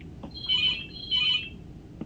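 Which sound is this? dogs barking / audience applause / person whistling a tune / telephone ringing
telephone ringing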